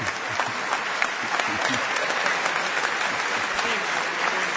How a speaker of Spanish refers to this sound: Con otras concurrencias no viene el aplauso.